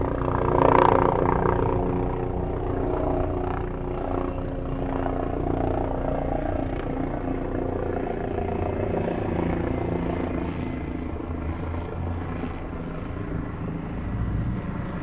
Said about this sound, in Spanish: Sábado 23 de noviembre de 2019, 3 de la tarde. El helicóptero patrulla Bogotá en un nuevo día de protestas.